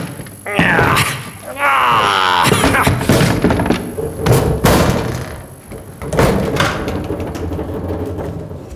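An old door hidden behind a shelf in a small room groans and creaks loudly as it's forced open, with rising, wavering squeals followed by heavy thuds, knocks and scraping as it's shoved further.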